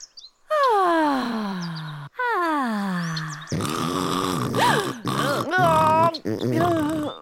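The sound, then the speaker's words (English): Two loud, drawn-out snores that slide downward in pitch, voiced by a person imitating snoring while asleep at a park, followed by a burst of exaggerated snorting and grunting noises. “You started snoring really loud.”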